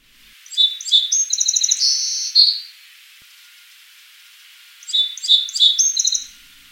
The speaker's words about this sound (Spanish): A finales del invierno, los gorriones cantores suelen ser los primeros en cantar.